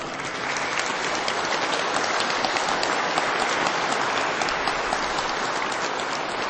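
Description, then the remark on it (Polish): Sustained audience applause in Poznań for a woman joining by phone and for her mother, a dense, steady wash of many hands clapping at an even loudness for several seconds, with no voices standing out. “Brawa dla ciebie, dla twojej mamusi.”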